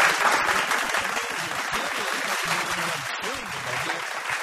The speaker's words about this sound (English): We're up Talkback Mountain, and look who's joined us at Base Camp One. It's Cal Wilson. Give her a round again.